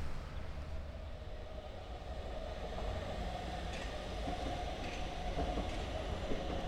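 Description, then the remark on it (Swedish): A green line metro train, line 19 toward Hagsätra, passes at Sockenplan where the metro crosses Sockenvägen: a steady heavy rumble with a thin electric whine running through it, growing slightly louder partway through. No one speaks. “Och det är vi hela tre olika ställen som sockenvägen korsas av tunnelbanan.”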